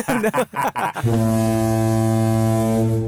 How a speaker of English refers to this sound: Should we sound the foghorn, Faye?